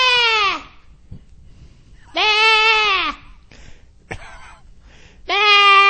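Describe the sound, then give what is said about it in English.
A goat bleats loudly three times, each call a harsh, strained, almost scream-like cry that sags in pitch at the end, separated by short pauses with a few faint clicks and shuffles. “And you can take that bleat out, the little where it makes that noise, and they scream.”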